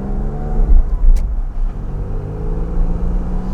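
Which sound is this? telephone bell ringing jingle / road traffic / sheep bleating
road traffic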